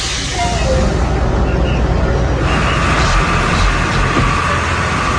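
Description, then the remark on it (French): Steady, loud interior rumble of a moving bus heading to Inveval in the Los Teques area, half an hour from Caracas, Venezuela: a continuous low engine drone and road noise that fills the whole stretch, with indistinct voices faintly mixed into the background. “On est en route pour Inveval. Ah, il faut que je me pousse du bus.”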